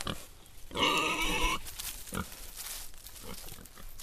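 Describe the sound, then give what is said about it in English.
Pigs kept for fertilizer on an organic farm grunt and squeal: one loud, shrill cry lasting almost a second, then quieter scattered grunts over a low farmyard background. “There's a wind turbine for power, a colony of bees to pollinate the crops, and chickens and pigs to provide fertilizer.”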